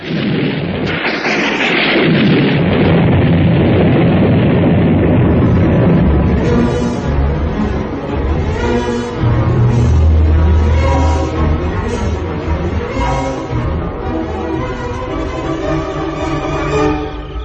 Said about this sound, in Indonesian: Ketika hujan deras, suaranya gemuruh, disertai petir yang meledak-ledak.